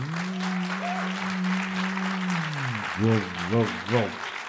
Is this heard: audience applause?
yes